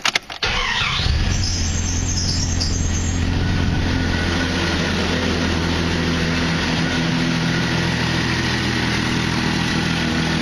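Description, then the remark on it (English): A four-wheel-drive truck with 270,000 on it cranks briefly, catches and starts, then settles into a steady, loud idle with a low rumbling hum and some mechanical whine. No one speaks. “Start it up one more time.”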